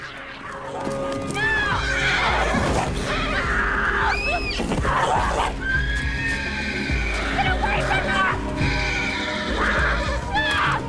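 A horse named Flicker rears up as its rider falls off and a mountain lion leaps onto its neck, letting out several loud, shrill neighs, each rising and falling in pitch, over a dense, continuous bed of rumbling noise and clattering hooves.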